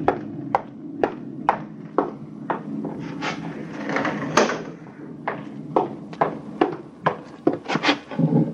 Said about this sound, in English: There's a storm coming up, and I can hardly hear you. Excuse me while I close the window.